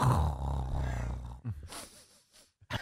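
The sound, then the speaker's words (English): A man's voice imitates an owl with a low, drawn-out hoot lasting over a second, followed by a few short breathy, huffing bursts. The sound is fairly loud. “I'm the here's what an owl's going to be doing.”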